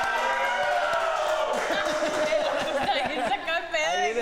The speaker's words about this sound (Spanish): Si esto es real, el público tiene que gritar y aplaudir, por favor. ¡Wow!